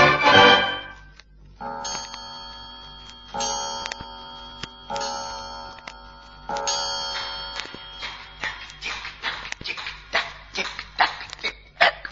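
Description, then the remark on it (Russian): An old clock strikes four resonant chimes, each ringing out and overlapping, before settling into a steady, fairly loud tick-tock. No voices. “О, тик-так, тик-так. Старость не радость. Ударю-ка еще раз.”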